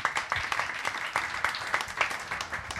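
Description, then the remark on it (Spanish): An audience at a debate in Mexico applauds, dense overlapping claps forming a steady wash of sound that holds at an even, moderate loudness for a few seconds. “Bien, aplausos, por favor.”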